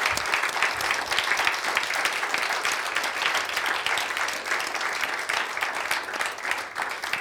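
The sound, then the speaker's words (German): Sustained audience applause given as a thank-you for people's service, a dense, steady wash of many hands clapping at fairly even loudness for about seven seconds, with no voices standing out. “Und wollen wir Ihnen mal einen Applaus geben, einfach ein Dankeschön für euren super Dienst, wirklich.”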